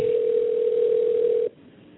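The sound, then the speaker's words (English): A telephone ringback tone on an outgoing call: one steady, mid-pitched electronic hum that holds for about a second and a half, then cuts off, leaving faint line hiss. No one speaks. “I don't know if he answers his phone.”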